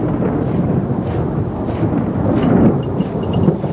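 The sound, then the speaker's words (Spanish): A deep, continuous rumble of thunder rolls through a stormy night as lightning lights up Saruman's troops, loud and sustained, with a faint hiss of rain beneath it and no voices. “El relámpago ilumina las tropas de Saruman.”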